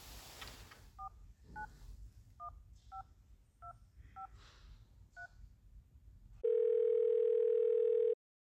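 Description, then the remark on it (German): A phone number is dialed on a mobile phone as a quick series of about eight beeping keypad tones, followed by a loud, steady ringing tone, with a low background hum underneath. “Hier, nimm mein Handy. Darf ich auch zuhören? Na klar, vielen Dank, Desiree. Ich weiß die Nummer auswendig.”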